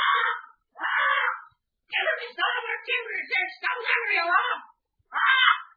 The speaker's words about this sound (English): Even old Dickon's parrot knows there's some funny business going on. Hey, quiet that bird